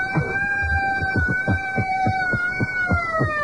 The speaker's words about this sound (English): It's really cranking. Look at this. It's not a sound effect. It's an actual General Electric Company Chicago issue real old-time siren. And if you really crank it, you know, like a hand crank civil defense siren.